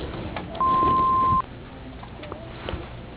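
A single steady answering-machine beep, loud and clear, holds for just under a second over faint telephone-line hiss, then cuts off into quiet line noise.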